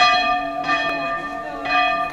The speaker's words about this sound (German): Schon beim Aufstieg zum Kloster auf dem Höfensberg hören wir die Glocke und oben freut sich der werkelnde Bruder, dass er sie wieder zum Läuten gebracht hat, nach 20 Jahren. Ja, die hat nicht geläutet, weil das Gestänge kaputt war.